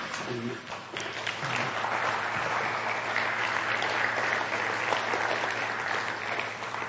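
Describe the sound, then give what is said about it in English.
A crowd applauds steadily for several seconds, a dense, continuous wash of clapping that stays loud and even throughout, with a brief voice near the start; the applause is offered for God. “Make sure your applause is for God.”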